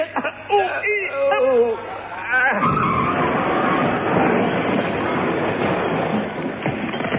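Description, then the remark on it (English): Voices grunt and strain with effort, then a loud, sustained grinding rumble takes over as a heavy lorry is tipped into a deep smelting pit, roaring steady for several seconds. “It ought to be. That was a lorry.”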